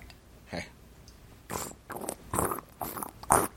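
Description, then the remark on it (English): A voice does Foley work during a D&D game, making a series of wet, sputtering raspberry noises imitating someone farting, five or six bursts of rising loudness with brief pauses between, the last ones the loudest. “Oh, it's definitely farting.”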